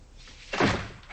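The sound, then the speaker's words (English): A woman shuts and locks a door with a single solid thud about halfway through, ringing briefly before fading into quiet. Nobody speaks. “She shuts the door, locks it, then pulls back the curtain over the window near the door and watches.”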